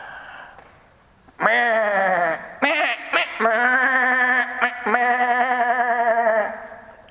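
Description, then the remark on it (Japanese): Loud sheep bleats, including small lambs, several wavering cries in quick succession with brief breaks, as if a small flock is calling together, then fading out at the end. “羊たちはとても賑やかです。羊の目目目目、小さな羊もめみんな仲良く、めーめーめー。”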